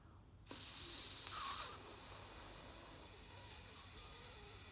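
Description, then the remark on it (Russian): A musician blows air through a curved bassoon tube with no reed attached, giving a breathy, hollow hiss. It starts abruptly and is loudest for about a second, then fades to a softer rushing that lingers. No voices. “Но трубка-змейка только шипит, как змея.”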